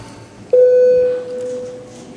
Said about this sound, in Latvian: Deputāti lūdzu balsojumu, lūdzu zvanu.